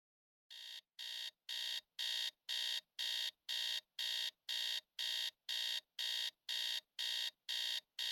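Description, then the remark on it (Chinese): An alarm clock beeps in a steady, rapid series of loud, bright pulses, about fifteen evenly spaced bursts in a row, starting slightly softer and quickly reaching full volume, with no voices. “闹钟。”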